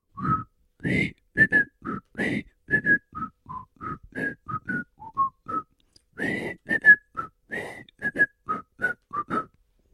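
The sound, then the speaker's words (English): A person whistles a song's tune as a quick, choppy melody of short notes, each note breathy and airy with audible puffs of air, pausing briefly midway before continuing. “Now, you are going to whistle for us, right?”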